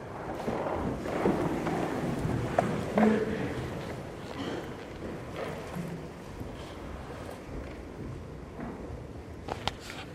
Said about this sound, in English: With this weather today, raining now, it's going to rain all day